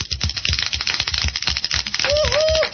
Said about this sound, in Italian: ve lo ricordiamo, gentili ascoltatori, questa è l'ultima puntata della prima stagione, un bel applauso!